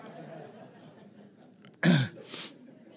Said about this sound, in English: And I've still got a little bit of a cold, by the way, so, well, cough. I'm not contagious.